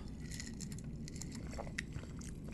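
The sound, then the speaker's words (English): Someone takes a quiet sip from a coffee-ish drink, with soft mouth and liquid sounds over a steady low background hum, and no talking. “You don't have to have more than one sip of this.”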